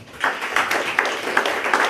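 An audience claps together in a steady, moderately loud burst of applause for a presenter about to give a conclusion, a dense crackle of many hands that starts quickly and keeps going evenly with no voices over it.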